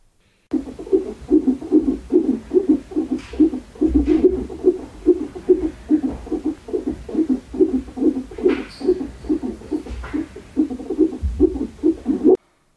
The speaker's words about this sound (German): Für die, die nicht wissen, was das sein könnte, das ist der Herzschlag von unserem Baby. Den habe ich gestern das erste Mal gehört. Mein Mann sagt, das hört sich ja an wie Tauben, die Samba tanzen.